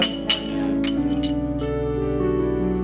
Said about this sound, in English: But for now, we finish up the paperwork and all cheers a shot of tequila to celebrate, as friends often do. Cheers.